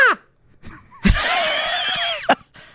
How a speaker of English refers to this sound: I will try to scream. You want to hear me scream?